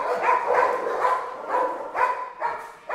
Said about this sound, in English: The whole operation looks like a scaled-down army base, only instead of soldiers marching to and fro, there are dogs. Dozens and dozens of them. Puppies stumbling playfully, chocolate labs chasing things, German shepherds looking for a job to do.